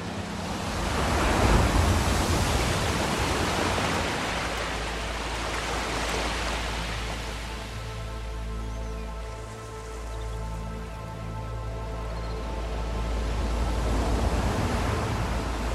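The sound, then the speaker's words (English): A relaxation music track: ocean surf washes in broad, hissing swells that rise and fall steadily, and a soft sustained musical drone fades in beneath the waves about halfway through. No one speaks. “You just heard track number 3 from the album …”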